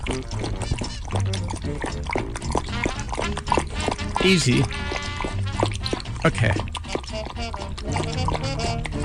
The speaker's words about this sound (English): It's amazing. Your tongue is just like a little bowl getting water up from the dish.